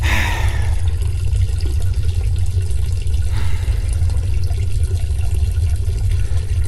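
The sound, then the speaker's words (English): A man urinating: a steady stream of liquid splashes continuously into toilet water, loud, with a full, rushing low rumble and no pauses for several seconds. No one speaks. “Mickey Mouse is looking at my pecker and watching me take a leak!”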